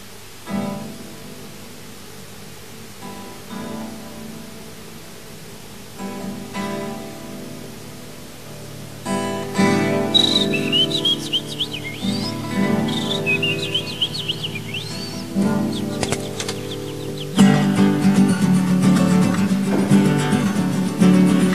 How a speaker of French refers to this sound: Et sur cette colline, il y a un banc, deux amoureux, un palmier. On entend des petits oiseaux. Et de loin, de très très loin, le son d'une cloche d'une église, très loin, à peu près comme ceci.